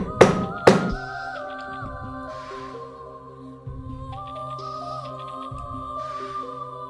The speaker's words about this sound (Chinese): 正在这个时候，房门外忽然传来敲门声，声音很有节奏。